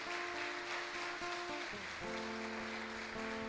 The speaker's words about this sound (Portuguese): Nós declaramos que o Senhor é o Deus de todas as coisas, que tu és adorado, exaltado, e nós assim fazemos isso com uma salva de palmas ao teu nome. Aplauda Jesus.